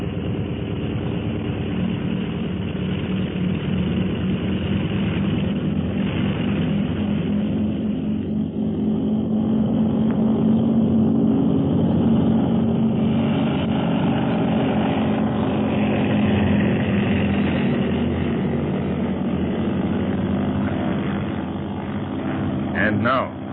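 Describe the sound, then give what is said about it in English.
A propeller aircraft engine roars continuously, its loud, buzzing drone swelling and climbing slightly in pitch as it revs up for takeoff, then holding a steady, throbbing hum. “Fasten your safety belt, Quan Wu. I'm about to take off.”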